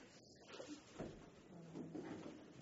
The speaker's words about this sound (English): If someone would be kind enough to shut the door.